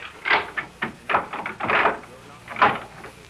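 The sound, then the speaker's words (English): A door is unlocked and opened: a few short clicks and rattles of the latch and lock, followed by the creak and scrape of the door swinging open. “Open this door immediately, or I'll have to send for a doctor.”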